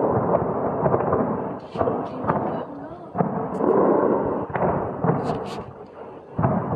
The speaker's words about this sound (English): Explosions have been heard across the Iranian capital, Tehran, as three waves of airstrikes were launched by Israel overnight.